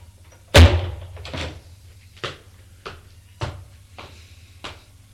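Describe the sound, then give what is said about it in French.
A door slams shut with a sharp, loud bang as a woman leaves a room, followed by several fainter knocks and thuds spaced out over the next few seconds against a low steady hum. “va vers le cendrier qui est sur la table de nuit, écrase sa cigarette et sort de la pièce, elle aussi en claquant la porte.”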